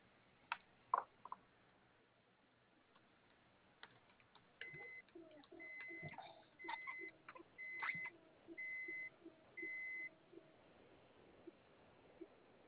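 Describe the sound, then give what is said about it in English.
A string of short, evenly spaced electronic beeps, like a car's warning chime, sounds repeatedly for several seconds at moderate volume after a few faint clicks, with no one talking. “Is that your car that's beeping?”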